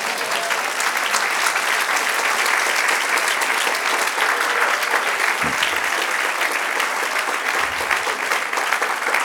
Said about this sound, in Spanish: ¿Quieres darle un aplauso al Señor?